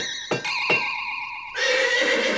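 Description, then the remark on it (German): Three horses whinny loudly, their high, wavering neighs overlapping for a couple of seconds, with a brighter, fuller burst of whinnying joining in toward the end. No one speaks. “Ene mene Gänsehaut, drei Pferde wiehern jetzt ganz laut.”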